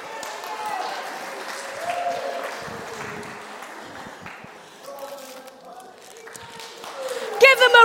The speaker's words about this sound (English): Applause.